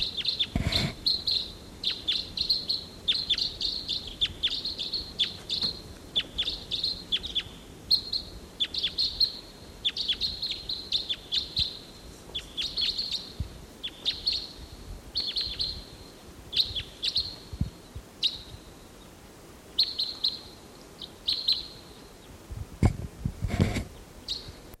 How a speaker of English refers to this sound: A lone bird flying over.